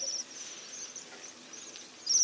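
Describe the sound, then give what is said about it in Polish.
High, thin, bell-like trilling of waxwings runs almost continuously, fairly soft at first, with a brief louder burst near the end and no voices present. “Głos jeszcze bardziej przypominający dzwoneczki, takie notoryczne potrząsanie.”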